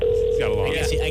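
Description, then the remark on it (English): A steady electronic telephone tone hums continuously through the short stretch, fairly loud, with a murmur of voices running underneath it. “The phone does tend to ring.”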